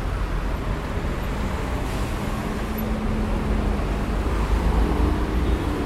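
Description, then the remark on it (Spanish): Steady, loud city traffic rumbles at a busy intersection with traffic lights. A few passing cars measure 73 to 76 decibels, and a city bus reaches 83 decibels as its deep engine drone swells toward the end. “Entre 73 y 76... los pocos autos que pasaron. 83 ese colectivo, realmente son valores muy altos en esta zona de la ciudad.”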